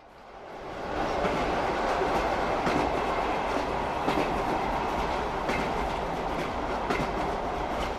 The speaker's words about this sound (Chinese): 在火车的隆隆声中